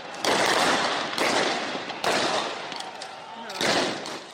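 Four loud, sharp blasts of tear gas canisters and gunfire go off about a second apart as Kenyan police do crowd control at protests, each blast leaving a long rumbling echo and noisy commotion between them.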